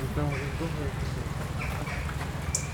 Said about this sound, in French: Là, vous entendez les choucas là. Ces petits cris. Ils communiquent beaucoup entre eux.